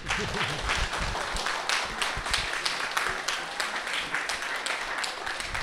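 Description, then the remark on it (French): Sustained applause from an audience for the author of a book, a dense wash of many hands clapping steadily for several seconds with a few louder individual claps standing out, without talking. “Et je voudrais qu'on applaudisse vraiment”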